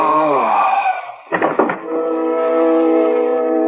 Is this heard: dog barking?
no